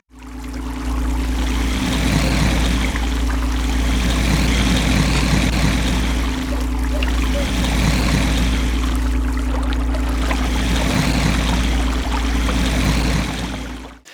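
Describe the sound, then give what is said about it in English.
A loud, steady vacuum cleaner hum drones throughout, digitally combined with a churning, gurgling water texture that swells in slow repeating waves. No voices, just the continuous mechanical whir and bubbling. “It's like a sound of a vacuum and some like nasty like water gurgling sounds combined in Audacity, and I don't know, it works.”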